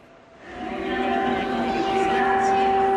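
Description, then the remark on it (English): Busy train station ambience at Lviv Central train station as a train rolls through, its rumble swelling after a quiet start and holding steady with a sustained tonal drone over the noise, faint voices mixed in. “The Lviv Central train station is the last major hub for refugees from the war escaping to Europe.”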